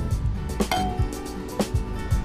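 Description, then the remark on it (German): Glasses of Lumière Écrée champagne from the Jean Velu estate clink together a few times in Saint-Léger-sur-Dun, sharp bright taps with one clink ringing out in a short, clear tone, over a steady low rumble with no talking. “Und den haben wir jetzt gerade aufgemacht, den Lumière Écrée, Licht und Kreide. Den trinken wir jetzt”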